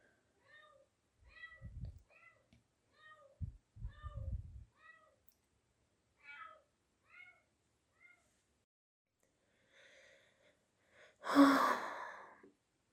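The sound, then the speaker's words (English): A cat meows repeatedly in short, plaintive calls over several seconds at 4 a.m., with a few soft low thumps early on, ending in one louder, drawn-out yowl. “And there's the child crying again.”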